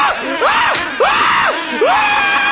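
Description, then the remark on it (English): A man screams loudly, his voice rising and falling in three long, strained wails that run almost back to back with no words spoken. “Then stop screaming so loud.”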